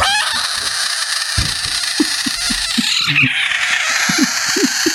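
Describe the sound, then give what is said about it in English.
A South American budget frog gives a series of short, harsh defensive squawks and screeches, its defensive scream, uneven in rhythm and fairly low-pitched, over a steady loud hiss of background noise. “Pony found a video of someone with a screaming frog”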